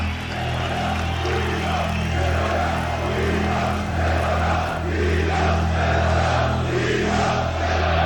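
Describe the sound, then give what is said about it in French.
A huge crowd at a rally in Turkey roars a rhythmic two-word chant meaning "hang him", aimed at Salahettin Demirtaş, leader of the pro-Kurdish HDP party, the massed voices steady and loud throughout, with a deep rumbling low end like a packed outdoor rally. “Ce grondement de la foule que vous entendez, ce sont deux mots, terribles.”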